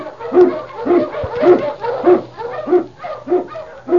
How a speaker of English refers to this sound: Huskies! King, the swiftest, strongest of Eskimo lead dogs, blazes the trail through storm and snow for Sergeant Preston as he meets the challenge of the Yukon.